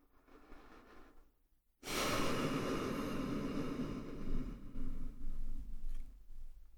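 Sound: slow deep breaths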